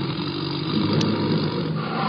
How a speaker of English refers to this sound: Play the tiger sound.